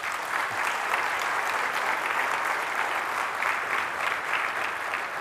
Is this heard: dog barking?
no